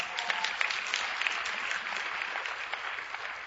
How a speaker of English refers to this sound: If you want to clap about that, you can clap about that. That's a good truth.